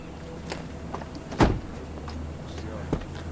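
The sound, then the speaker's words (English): A low, steady vehicle rumble idles throughout as two unmarked black vans and a silver car arrive, broken by one loud car-door thump midway and a softer clunk near the end, with faint clicks and shuffling as numerous men get out. “she looks toward the street and sees two unmarked black vans and a silver car arrive.”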